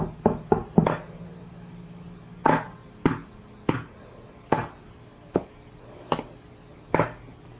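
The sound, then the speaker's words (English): A child bangs on a drum with a quick burst of four hits, then slower, uneven single thumps about every half second. Sharp, hollow knocks with no talking. “He's playing the drum!”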